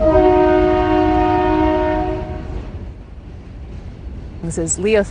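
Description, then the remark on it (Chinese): A coal freight train rumbles past, its horn blaring one long, steady blast for about two seconds before the heavy rolling noise continues; a voice starts speaking near the end. “而实际生活之中嘅运煤列车同玩具唔一样。”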